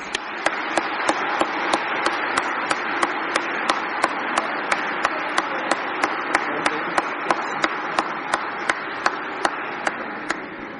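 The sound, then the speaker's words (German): A church audience applauds steadily for about eleven seconds during a service, welcoming the confirmands who lead it: a dense, even wash of clapping with a crisp, regular beat of sharper claps snapping through roughly twice a second. No one speaks. “Und ich denke, die begrüßen wir jetzt mal mit einem herzlichen Applaus.”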